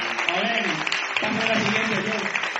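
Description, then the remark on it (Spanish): An audience at a church service applauds the Lord steadily, a dense wash of clapping that stays loud and even throughout, with a few raised voices mixed in under the clapping. “¿Por qué no le da un aplauso al Señor, por favor?”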